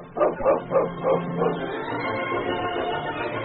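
A dog named King barks five times in a quick, steady rhythm, fairly loud, then the barking stops and a low, continuous background sound carries on.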